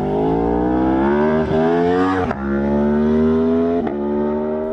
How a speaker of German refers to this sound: dienten den Menschen früher geheimnisvolle Gesänge, die dem satten, blubbernden Sound eines modernen Motorrads nicht unähnlich waren